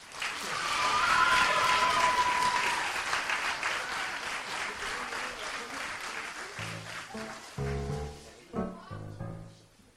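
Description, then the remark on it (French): An audience claps in a loud, dense swell that holds for several seconds, with a brief whistle early on, then thins out as a voice starts talking over the fading applause. “Donc d'ailleurs, je vais vous demander un peu plus d'applaudissements pour ça.”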